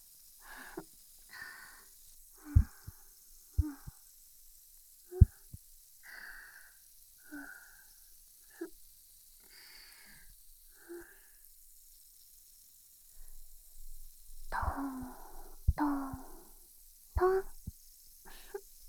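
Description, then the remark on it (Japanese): Soft tapping on the ears of a binaural ASMR microphone, landing in irregular clusters of muffled thumps with brief rustling and pauses, quiet with no talking. “へへ、耳のタッピングだよ。トントントン。”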